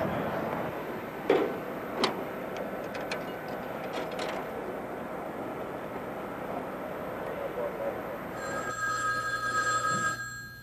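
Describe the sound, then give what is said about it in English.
A few sharp clicks and handling noises over a low room hum as someone places a phone call, then the telephone begins ringing steadily for the last couple of seconds, a bright, buzzy tone. “Can you wait till I make a phone call?”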